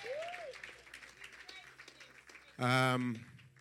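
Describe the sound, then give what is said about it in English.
An audience claps steadily for the Lord Jesus in a dense wash of applause, with a voice whooping early on, before a loud, brief sustained tone or shout cuts in near the end. “Clap for the Lord Jesus.”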